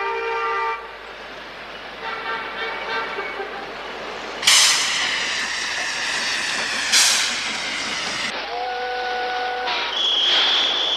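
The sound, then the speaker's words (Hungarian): A train on the railway to Philadelphia, carrying a block of ice in a rail car, sounds its horn in sustained, harmonic toots, with loud bursts of hissing steam and a steady mechanical rumble beneath. No voices are heard. “Egy jégtömbben, egy jégtömbbe fagyasztatta magát, és a jéghasábot feladta New Yorkba, Philadelphiába vasúti kocsin.”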